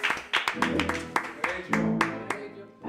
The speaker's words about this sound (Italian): Un applauso!